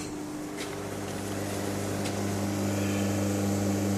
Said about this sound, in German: Hört ihr, wie der Espresso langsam in die Tasse? Ich wollte gerade sagen, rieselt, aber er läuft tröpfelt. Natürlich. Tröpfelt auch nicht. Tolle Farbe. Ja, also schön nussbraun.